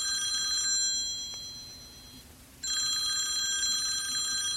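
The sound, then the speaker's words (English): A telephone rings out on an outgoing call to a high school, a bright electronic trill heard twice with a long silent pause between bursts, clear, with no one talking. “She sighs, picks up her phone, and dials the high school.”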